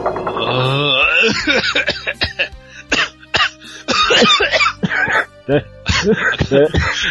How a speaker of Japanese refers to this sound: つられた。 演技でやってたら本気で咳込んだ。